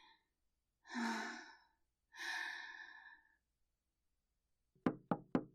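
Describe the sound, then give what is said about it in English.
Three quick, sharp knocks on a door sound near the end, following two long, breathy sighs. “Who's at the door?”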